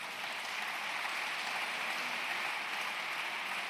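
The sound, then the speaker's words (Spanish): Steady, dense applause from a sizeable audience for a presidential candidate's education proposal, a continuous wash of clapping that holds at an even level for a few seconds without voices or breaks. “Aplausos a esa propuesta, además de una ley de educación que no cambie con el gobierno de turno.”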